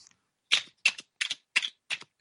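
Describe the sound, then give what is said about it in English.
A giant metal Transformers T-Rex toy (Grimlock) and a giant metal mosquito toy are bashed together in five sharp, bright clanks at a steady, even rhythm, with brief silence between each hit and no voices. “I am bashing them together.”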